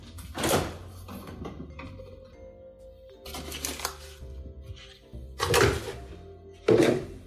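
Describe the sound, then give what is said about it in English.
A fridge door is opened and shut as dairy is taken out, giving several dull, irregular thunks and clatters over a steady low hum, with quieter rustling of items being moved between the knocks. “And I will grab my dairy out of the fridge.”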